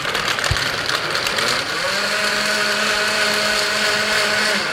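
A cordless countertop blender with no battery, its half-horsepower motor powered directly, runs with a loud, steady whir, its pitch climbing partway through as it speeds up, then holding at an even high-speed hum until the end. No one speaks.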